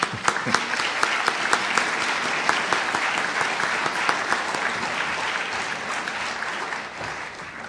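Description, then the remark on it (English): An audience at an MLK Community Program breaks into steady applause to thank the community and university volunteers who organized the events. A dense wash of many hands clapping at an even loudness runs for several seconds before it tapers off slightly at the end. No one speaks over it. “First of all, let me thank all those folks again with an applause, and please help me.”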